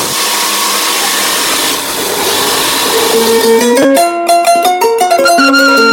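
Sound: embroidery machine running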